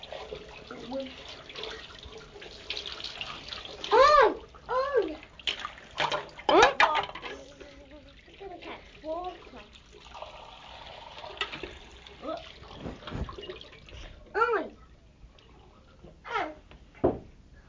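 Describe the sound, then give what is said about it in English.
Water runs and splashes steadily as someone is given a quick wash around the face, with short vocal sounds and babbling breaking in over the watery hiss at intervals. “I'll give you a quickie around the face.”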